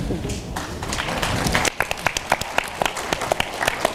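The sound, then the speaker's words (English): An audience breaks into clapping: dense, overlapping applause at first, then thinning into scattered, sharper individual claps that continue at a moderate level until the end. “You don't have to clap.”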